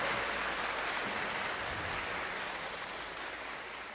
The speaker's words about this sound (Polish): Brawa dla zespołu. Gorące brawa, bo nam już nie zaśpiewają.